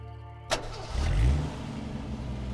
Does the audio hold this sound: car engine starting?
yes